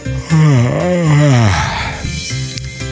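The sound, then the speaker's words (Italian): A person yawns loudly, a long drawn-out voiced groan that rises and wavers before trailing off into a breathy exhale, followed by a brief softer hum. “Siete riusciti a non sbadigliare?”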